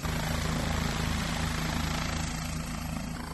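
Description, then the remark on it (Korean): A police helicopter takes off, loud, its rotor thumping in a steady rapid beat under a roaring engine whine that holds level throughout, with no voices. “경찰 헬리콥터이기 때문에 더 기대감을 가지고 헬리콥터의 이륙 모습을 지켜보고 있습니다.”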